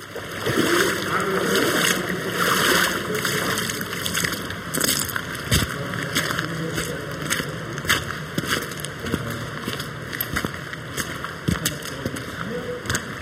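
Footsteps in rubber boots slosh and splash through water at a steady walking pace, fairly loud, with a continuous wash of water between the steps and no voices.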